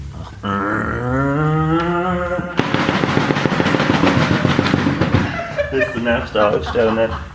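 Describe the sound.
A voice mimics a bus pulling away: a sustained, wavering hum, then a loud rattling, sputtering burst like a revving engine, ending in a few shorter hummed bursts.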